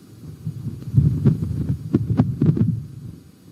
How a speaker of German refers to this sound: Das tönt ein bisschen wie Windgeräusche. Das ist eine einfache Windböe tatsächlich. Und doch ist sie speziell. Es ist nämlich der erste Sound vom Mars, aufgenommen vom neuen Rover Perseverance.